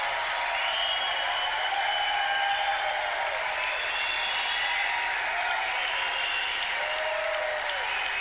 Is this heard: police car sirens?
no